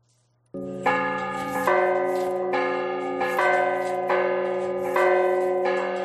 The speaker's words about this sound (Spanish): Así es como suenan a las 12 del mediodía las campanas de la iglesia de San Martín en Salamanca. Como en otras muchas iglesias de la diócesis, a esa hora repican las campanas en señal de unión de toda la iglesia en España,